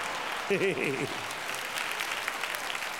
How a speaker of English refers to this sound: You can give God a hand clap for that. Praise the Lord.